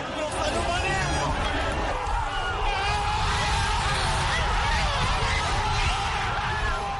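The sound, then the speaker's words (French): A huge football crowd gathered before giant screens at the Monument de la Renaissance roars and cheers continuously after captain Sadio Mané's winning penalty in the Africa Cup of Nations final against the Pharaohs, a dense wall of shouting and whooping voices that stays loud and steady for the whole stretch. “Une clameur assourdissante après 2 heures de silence et de stress pendant une finale très fermée contre les Pharaons.”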